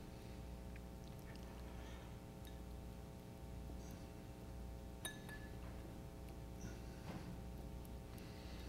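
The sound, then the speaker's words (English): A glass is set down with a single sharp, ringing clink partway through, over a steady low rumbling hum that runs throughout. “I can put the glass down.”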